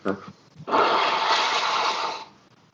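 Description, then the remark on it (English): A short voiced murmur, then one loud, rough nose blow, a sustained breathy honk lasting about a second and a half before it trails off. “I'm going to blow my nose.”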